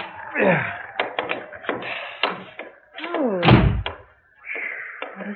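A door is rattled and tried in freezing cold: a run of sharp clicks and knocks, creaking wood, then a heavy thud as it gives way and swings open, ending with a softer creak.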